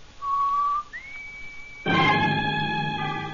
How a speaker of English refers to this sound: Outside, at the front of the building, Dale whistles the warning signal to Roy and Jonah.